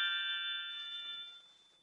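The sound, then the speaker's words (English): A single bright doorbell chime rings out clearly at the door of a bungalow converted into a duplex, then fades away over a second or so, leaving quiet behind it, with no voices. “I rang the doorbell.”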